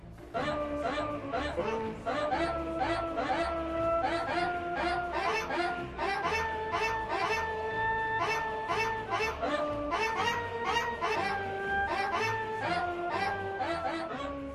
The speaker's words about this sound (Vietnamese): Tuy nhiên, nhờ sống ở Anh lâu năm cho nên tôi biết vừa rồi là tiếng chó của xứ nữ hoàng.